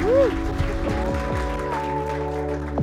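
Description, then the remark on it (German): A church audience at Ecclesia Bielefeld claps steadily in a dense wash of applause for Jesus, with scattered cheers and whoops rising over sustained musical tones underneath. “Komm, wir geben Jesus mal einen Applaus für alles, was er in unserem Leben tut.”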